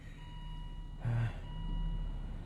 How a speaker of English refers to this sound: So, back in the cosy car. Get the heater on again.